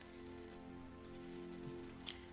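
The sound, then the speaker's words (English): Soft, steady rain falls on a surface, a continuous low hiss with faint patter, over a quiet background hum and one brief drip-like tick near the end. “It's wet right now. It's raining.”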